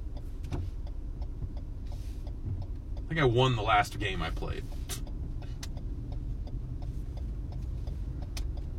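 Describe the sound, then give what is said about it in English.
Heavy trucks rumble steadily, a constant low engine drone filling the whole clip while a man speaks briefly over it. “Yeah, alright, well, those trucks are still there.”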